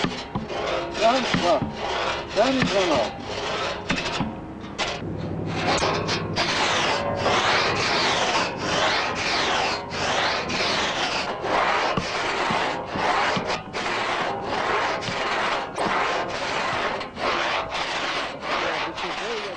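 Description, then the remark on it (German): A large two-man pit saw, worked by a top man on the trestle and a helper below, rasps through wood in steady back-and-forth strokes, loud, the rough grinding rhythm continuing without pause. “Bis die Säge im Schnitt Führung gewinnt, muss sie sehr behutsam betätigt werden.”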